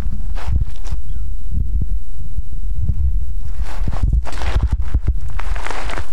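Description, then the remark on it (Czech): Footsteps crunch steadily over rough ground in the desert at night, walking to the trenches and a little beyond, fairly loud, with a low wind rumble and faint rustling underneath; no one speaks. “A to, co samozřejmě slyšíte, jsou moje kroky.”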